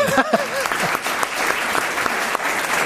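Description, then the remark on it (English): Steady audience applause, a dense wash of many hands clapping at a fairly loud, even level, with a few faint voices and cheers poking through near the start. “See, I am going to tell my wife that they applauded, and she's going to say, "Oh, come on, get serious."”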